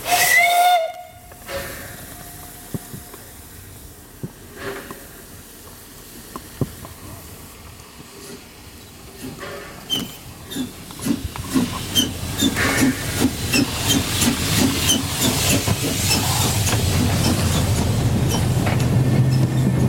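A steam locomotive of the Mansfelder Bergwerksbahn, a narrow-gauge mining railway, hisses and vents steam, its sound building into rapid rhythmic chuffing as it gets underway, growing louder and steadier over the second half.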